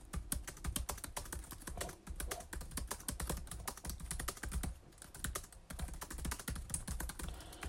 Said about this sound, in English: It's going to close the lid of the 16, put my MacBook Air on top of it. Have a listen to this keyboard. This is my MacBook Air.